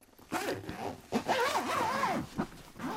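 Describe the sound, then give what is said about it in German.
The zipper of a padded balalaika bag is pulled open in several uneven strokes, each a loud rasping whir that rises and falls in pitch, with short pauses between pulls. “Und sein Instrument, das hat er immer fest verpackt in einer gepolsterten Tasche mit Reißverschluss.”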